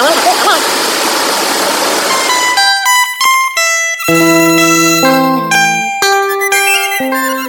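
Street ambience around the street where an embroidery shop stands opens with a steady, loud rushing wash of noise, which gives way to clear sustained tones stepping between pitches, like a melody played over a quieter background.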